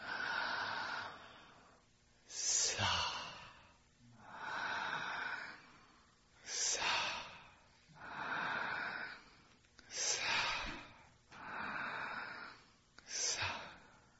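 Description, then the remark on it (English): Slow, deliberate breathing chanting the so-hum mantra repeats in a steady rhythm, with about four full inhale-and-exhale cycles. Each breath is a soft, airy hiss of even loudness, and no one speaks. “But the mantra is, as you inhale, it makes a little. As you exhale, it makes a.”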